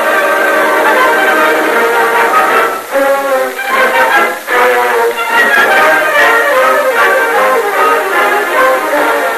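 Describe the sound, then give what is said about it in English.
A steamboat getting underway: loud, steady layered whistle-like tones ring over a thick wash of machinery noise, with a couple of brief dips before the din resumes. No one speaks. “As the steamboat got underway once more, the captain went to his cabin.”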